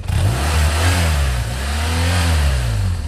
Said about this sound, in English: That, of course, is the sound of risk on two wheels, also known as motorcycles.